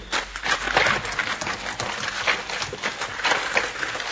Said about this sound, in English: Looks like my horse ran away.